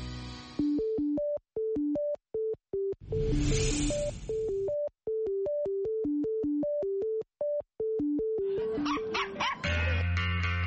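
Dogs bark in a quick, steady rhythm, the yips stepping up and down in pitch like a little tune, loud, with bursts of noise partway through and near the end.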